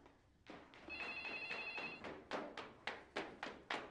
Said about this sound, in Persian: من میرم تلفن رو جواب بدم، شما هم جمع شید سریا.